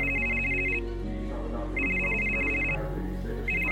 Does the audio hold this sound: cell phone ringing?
yes